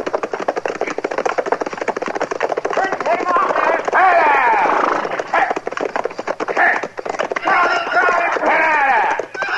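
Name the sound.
runaway horse galloping hooves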